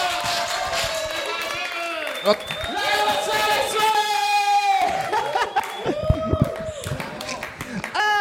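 Audience applause mixed with loud cheering and whooping voices, a steady roar of clapping and shouts that carries on for several seconds with no break.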